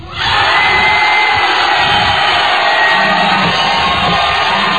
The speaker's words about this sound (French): À présent, cher public, c'est à vous de voter. Alors, on va vous écouter à l'applaudimètre.